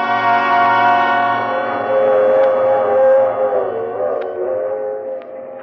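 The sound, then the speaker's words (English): A train rumbles steadily along the rails while a long, droning horn-like wail sounds over it, with a few faint clacks of the wheels; no one speaks. “It was on the train that I first met Patrice.”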